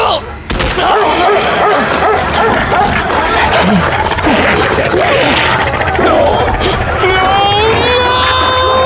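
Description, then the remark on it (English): A chaotic, dense burst of dogs in a pit barking and snarling over each other as a man fights them, continuous and loud, ending with high, drawn-out whining tones as the frenzy carries on. “He took up an old human femur and utilized it as a weapon against the dogs.”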